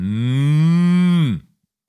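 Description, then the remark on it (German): A person imitates a cow with one long, loud moo that holds a steady low tone for over a second, then drops off abruptly into silence. “Ich kann eine Kuh sehr gut nachmachen, pass auf.”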